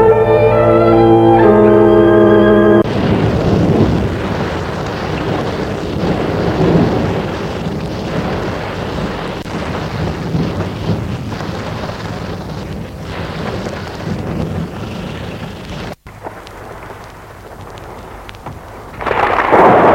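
heavy rainstorm with thunder

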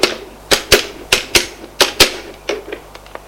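telephone being dialed

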